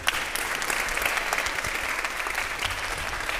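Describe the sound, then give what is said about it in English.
A church audience applauds steadily for Pastor Young after his sermon, a dense wash of many hands clapping at once, sustained and fairly loud throughout with no voices standing out. “Let's clap our hands once again for Pastor Young.”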